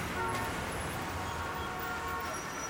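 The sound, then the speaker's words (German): Dense, steady roar of busy street traffic in Munich fills the scene, with car horns tooting intermittently through the constant rumble of engines. “All diese Maßnahmen lindern das Nachkriegschaos, das auch im Verkehr herrscht.”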